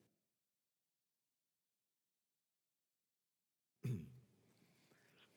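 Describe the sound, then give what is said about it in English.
After nearly four seconds of silence, one sudden, loud cough bursts out after the speaker takes out a cough drop, followed by a low, lingering rustle of room noise. “I take the cough drop out and I start coughing.”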